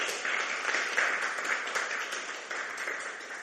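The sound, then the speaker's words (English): An audience at Last Adam Tabernacle claps steadily for the worship team for several seconds, a dense, even wash of many hands with no single beat standing out, fairly loud and without any talking over it. “Give the worship team another hand clap.”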